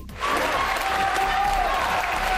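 Neighbours applauding the mayor of Alcanar after a 14-hour police search, freed without charges: a steady, loud burst of many hands clapping at once, dense and continuous throughout, with a faint whistle-like tone running through the noise and murmuring voices beneath.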